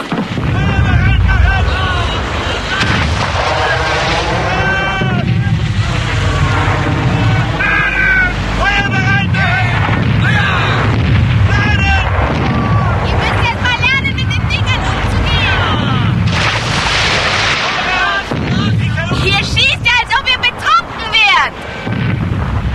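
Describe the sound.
Heavy cannon fire from a ship booms again and again amid a dense, chaotic din, with loud shouting voices layered over the blasts throughout.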